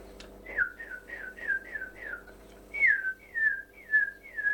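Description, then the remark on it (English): A horse keeper whistles a steady signal call to make a horse urinate, a run of short, falling notes followed by four longer, louder falling notes. The whistling is clear, with no talking. “So you'd just stop, and you had a little whistle for that, and the horse would do it.”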